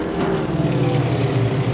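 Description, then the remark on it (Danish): A steady, loud drone of heavy bomber plane engines passing overhead above a rainforest, seen far off as small dots releasing bombs, with a low throbbing hum and broad rumble holding constant throughout and no voices. “Bombefly.”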